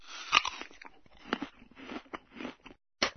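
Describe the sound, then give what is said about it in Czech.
A loud, crisp crunch of someone biting into an apple, followed by irregular wet chewing and crunching, a brief pause, then another sharp bite at the end. “Nego dete, hoćeš li da jedeš ovu jabuku ili ćeš da radiš to što radiš?”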